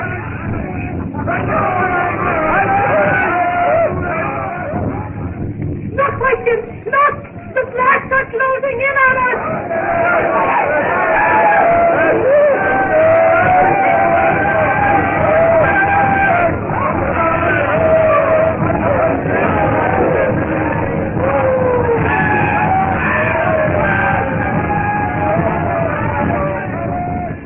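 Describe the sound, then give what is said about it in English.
A witch doctor shouts that the white devil god is in his hut amid a large crowd shouting and yelling in alarm, a dense, continuous wall of overlapping raised voices with excited bellows rising out of it, loud throughout. “The witch doctor shouts that the white devil god is in his hut!”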